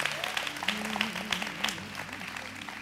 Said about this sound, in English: amen, yeah, give the Lord a big clap. Yes, sir.